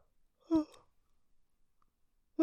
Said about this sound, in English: I gotta stop yawning though. It's not bedtime yet.